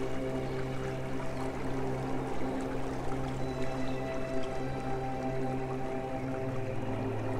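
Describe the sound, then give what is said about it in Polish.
Steady flowing stream water, a continuous bubbling wash, layered with sustained low droning tones that hold throughout at an even, moderate loudness. “Zbliż się do tej płynącej wody, do tego strumienia.”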